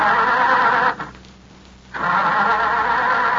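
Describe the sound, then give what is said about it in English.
A car waiting at the end of an alley cranks but fails to start: two long, loud grinding bursts of the starter, separated by a pause of about a second, with no voices. “I was pushed into the back seat, but it didn't start moving. The car just wouldn't cooperate.”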